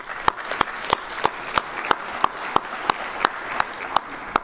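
Audience applause for the chair of the ACCUPAW host committee: a steady wash of clapping with sharp, evenly spaced claps standing out on a brisk regular beat, about thirteen in a row, and no voices.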